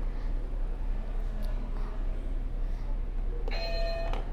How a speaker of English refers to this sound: Before we do this one, can you hit a buzzer for me? Whatever color you want.